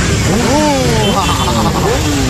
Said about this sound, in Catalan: La polèmica és que, un cop acabada la jornada solidària, doncs es genera com una mena de carrusel amb les motos, de milers i milers i milers de motos.